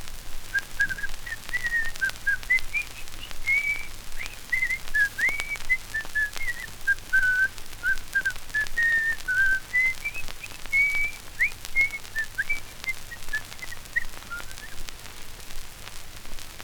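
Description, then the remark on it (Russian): A painter whistles a cheerful, bouncy tune while repainting a whole fence for May 1. The tune runs continuously with rising and falling notes, clear, over a faint background hiss and low hum. “И вдруг пришел маляр и стал ко дню 1 мая весь забор заново красить, весело насвистывая.”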